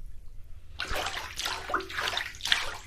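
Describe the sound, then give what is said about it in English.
A sponge left in water sloshes and swishes in a series of close, fairly loud wet bursts, recorded with a microphone held right next to the water, starting after a short silence and repeating in an uneven rhythm. “It's kind of cool, because I can put this thing, because I don't care about it, I can put it right next to the water and just sort of go...”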